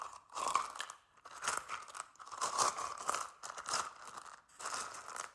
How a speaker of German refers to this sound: Die Steine knirschen unter seinen Sandalen.